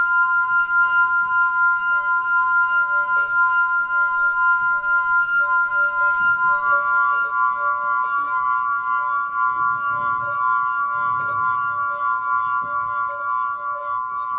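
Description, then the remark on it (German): A steady, sustained ringing of glass, bright pure tones holding for the whole stretch with a slight shimmer, fairly loud, with no voices over it. “Das klingende Glas hat Lena Mahler auf den Doku-Blog gestellt.”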